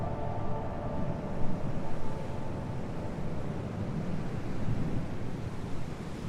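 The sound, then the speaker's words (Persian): A steady, rumbling wash of ocean surf mixed with strong, constant gusting wind on the Namib Desert coast, where sand dunes meet the sea. Continuous and fairly loud, with no distinct individual wave breaks and no voices. “کفتارها از سرتاسر بیابان نبی به جایی می روند که تلهای شنی به دریا می رسد.”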